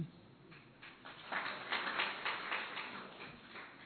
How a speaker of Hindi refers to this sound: ताली बजाई लेकिन सबने नहीं बजाई, जोर से नहीं बजाई।